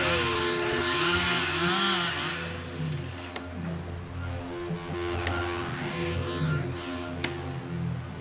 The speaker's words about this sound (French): Impressionnant. Quel spectacle! Ici, ils abattent un arbre à la tronçonneuse, puis à la fin, à la force de leurs mains.